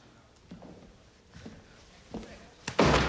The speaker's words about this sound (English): They open the doors of a meeting room to find it deserted.